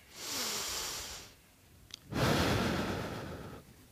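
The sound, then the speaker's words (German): A deep breath drawn in and then let out during a guided relaxation exercise with eyes closed, two long airy rushes of audible breathing separated by a short pause, with the exhale louder and fuller than the inhale. “Atmet mal ein und mal aus.”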